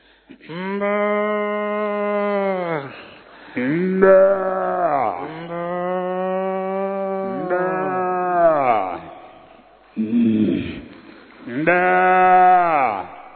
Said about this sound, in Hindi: इसके बाद गाय का बछड़ा।